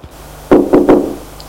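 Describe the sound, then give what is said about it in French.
Three quick, solid knocks on a wooden door, fairly loud, falling in a brisk uneven rhythm before it goes quiet again. “On frappe plusieurs fois à la porte.”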